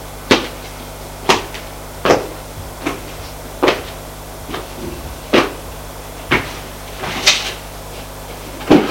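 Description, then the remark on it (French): A woman opens the last drawer of a desk, with about ten sharp wooden clunks and knocks at uneven intervals, fairly loud, over a low steady hum with no talking. “Elle ouvre le tiroir.”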